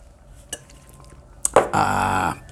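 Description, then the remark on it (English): A faint clink of a cup, a brief knock, then a loud, drawn-out slurping sip of coffee lasting about half a second before cutting off, with no talking. “However, have a sip of my coffee here.”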